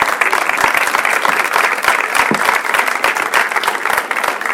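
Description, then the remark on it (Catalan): A crowd applauds steadily for the committee and people who worked on an electoral programme, with dense overlapping claps at a consistent loudness filling the whole stretch. No one speaks over it. “Per tant, un aplaudiment per tota aquesta comissió i tota aquesta gent que ha treballat amb el programa electoral.”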